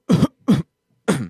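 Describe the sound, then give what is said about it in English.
A voice imitates a cough: three short, throaty hacks, the first two close together and the third after a brief pause. The sound is fairly loud, with no talking. “He's coughing.”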